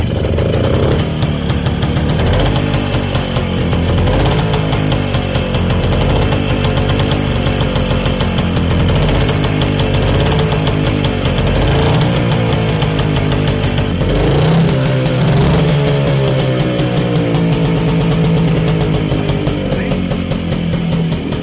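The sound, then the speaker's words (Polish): A motorcycle is kick-started and its engine runs loudly for the whole stretch, its rough, throbbing note rising and falling as the throttle is revved, with no voices over it. “No i następnie następuje kopnięcie.”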